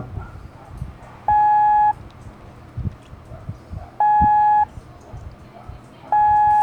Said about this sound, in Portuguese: Ok, vamos para depois mais duas letras, essas não se parecem, mas é fácil confundir, que é a letra T de tango, que é somente o som longo, da...